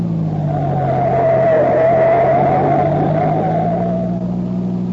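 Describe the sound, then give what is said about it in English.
A green sedan, running without lights, turns sharply right onto a gravel surfaced road. Its engine roars at steady speed while tires skid with a sustained, wavering squeal and gritty road noise, loud and continuous for about five seconds with no voices. “The driver of the green sedan extinguishes his lights and turns sharply to the right.”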